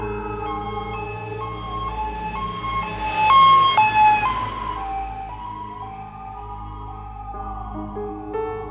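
An ambulance siren wails in a steady two-tone alternation, swelling louder midway, over a low, constant engine rumble as the ambulance drives at speed on a full emergency run to Helsingør Hospital.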